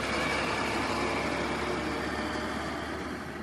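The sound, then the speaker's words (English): A heavy truck rumbles along the road past a small workers' town of about 3,000 people, where traffic is sparse, its broad, steady engine roar filling the scene and easing off slightly toward the end. No one speaks. “Traffic is pretty sparse right now, but Sergely says big things are coming to this area.”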